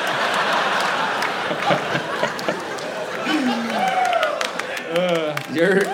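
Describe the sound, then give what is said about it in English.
A crowd claps and applauds in a steady, dense patter for several seconds, the applause started by a group of friends in the audience, with voices calling out and chattering over the clapping toward the end. “And your friends are starting the applause.”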